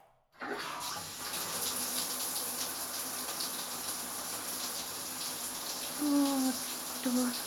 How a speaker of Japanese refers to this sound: 前から洗ってあげる。まずは、シャワーで頭を流すね。